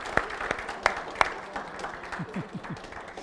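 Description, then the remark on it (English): A church audience applauds the moms on Mother's Day: a few sharp, loud claps stand out at first, then spread into a softer, scattered patter with brief vocal whoops mixed in toward the end. “Guys, let's give the moms a round of applause.”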